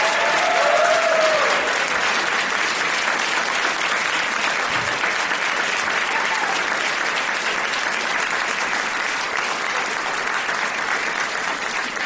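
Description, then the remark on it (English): Steady, sustained applause from an audience, a dense wash of many hands clapping continuously at an even loudness for the whole stretch, with a brief faint whistle early on. “They're just going to keep clapping until you tell them to stop.”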